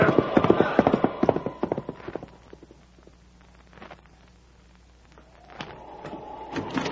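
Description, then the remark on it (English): Horse hooves clip-clop in a brisk, steady rhythm on the journey into Washington during a January sleet storm, loud at first, then die away to near quiet before more clattering and rumbling pick up toward the end. “But come on, we'll soon have some fresh horses and then the last lap into Washington.”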